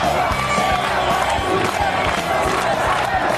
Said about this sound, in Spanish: Lo que acabamos de escuchar son las protestas que continúan en todo Chile, luego de que el Senado aprobara la construcción de 5 grandes hidroeléctricas en Aysén, al sur del país chileno.